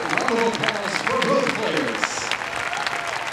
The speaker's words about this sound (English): In the end, it was another familiar scene at the Winston-Salem Open, an Isner victory and thunderous applause from his hometown fans.